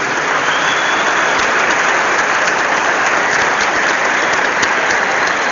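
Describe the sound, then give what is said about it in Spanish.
An audience applauds the Federación team in a dense, steady wash of clapping that holds at an even, loud level for the whole stretch, with no voices breaking through. “Un aplauso para el equipo de Federación.”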